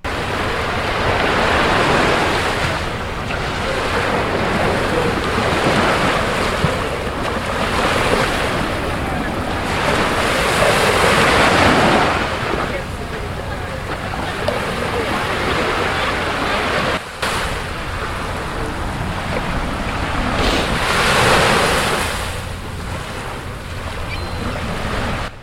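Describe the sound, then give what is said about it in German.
Ocean waves wash onto Brighton Beach by Coney Island, New York, on a September day in 2021, in broad, repeated surges, each swell rising and fading every few seconds, with steady wind rushing across the microphone throughout. “Also viel Spaß bei unserer kleinen Reise an den Strand von Brighton Beach.”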